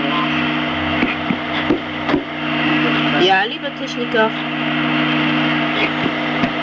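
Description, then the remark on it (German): Sharp, irregular knocks, several scattered taps at the start and a couple more near the end, over a steady low mechanical hum, with a brief spoken phrase in the middle. “Ja, ich höre das Klopfen.”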